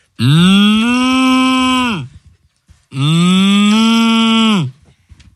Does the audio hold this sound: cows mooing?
yes